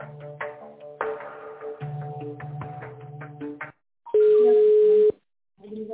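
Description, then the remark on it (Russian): Telephone line tones on an unanswered call: a few seconds of steady, droning tones, then a brief silence and a loud, single one-second beep before another pause. “Что-то неактивный телефон, не знаю, наверное...”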